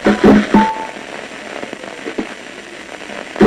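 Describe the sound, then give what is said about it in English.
Recorded firing of individual neurons inside a monkey's brain as it is about to make a decision: a dense, static-like crackle of rapid clicks and pops, with louder stuttering bursts at the start and end and a brief thin tone early on. “in fact the sound you're hearing, the sound of individual neurons inside the monkey's brain chattering away as it's about to make a decision.”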